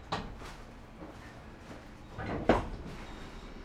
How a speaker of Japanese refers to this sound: 右側扉が開きます。扉にご注意ください。